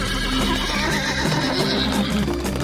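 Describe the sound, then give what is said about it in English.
A horse whinnies loudly over the clatter of hooves and a wagon lurching into motion, with dense, rumbling noise running steadily through the whole stretch. “Well, I'm just, I've got the wagon moving now.”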